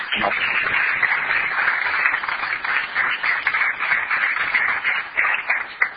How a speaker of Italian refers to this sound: vorrei dare un applauso, benvenuto.